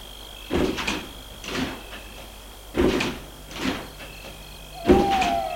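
Car doors open and thump shut several times in an uneven sequence as people get out of a car in front of a villa near Versailles, France, over a faint steady high-pitched hum, with no talking.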